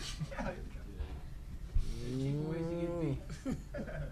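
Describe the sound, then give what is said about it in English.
A cow lets out one long, drawn-out moo in the middle, fairly loud, with brief bursts of people talking just before and after it. “Where's the cow?”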